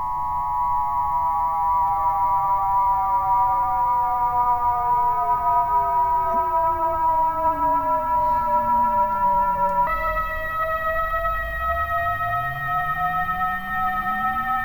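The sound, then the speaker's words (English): A ghostly synthesizer tone, played through a mixer with reverb added, drones steadily for about fifteen seconds, its layered pitches sliding slowly downward, then jumping midway as a deep sweep rises underneath. No voices. “Of course, it sounds even better when we add reverb.”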